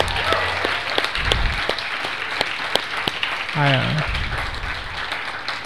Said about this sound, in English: Can we get another round of applause for her?